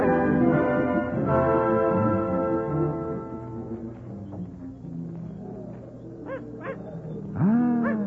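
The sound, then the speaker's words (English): A small dog that has jumped into a basket gives a few short, high yips toward the end, rising above a dense, sustained droning backdrop of layered tones. No one speaks. “Oh, mon Dieu, he jumped into the basket.”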